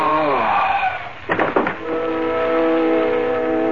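A train gets underway: a few heavy clanks and jolts, then a steady droning, whistling tone as the cars roll along, fairly loud with no talking.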